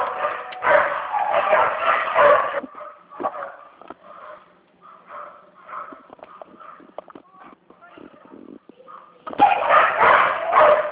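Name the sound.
dog barking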